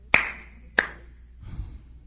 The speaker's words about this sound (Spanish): A ver, el aplauso. El aplauso y verle la cara a aquellas personas que una persona por ahí de pena le dio.